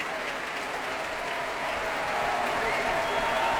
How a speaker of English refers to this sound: And Myung Woon Chung comes into the centre of the orchestra, applauds them himself, and cues them to rise.